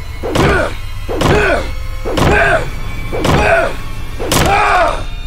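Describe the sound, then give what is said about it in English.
Ace bangs violently with his bat on a door in a hotel five times, loud, heavy thuds landing at a steady pace of about one per second, each with a booming, resonant ring and no voices. “while I stood against the wall with a kitchen knife, watching Ace bang violently on the door with his bat.”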